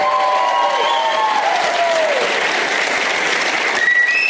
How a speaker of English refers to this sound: Oh, the whistling. More whistling.